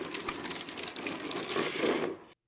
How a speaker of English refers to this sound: That was a big wheel skid. You hear that at the end? That little right there at the end. It was far more exciting doing it than it was hearing it.